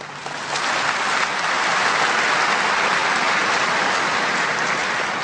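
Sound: audience clapping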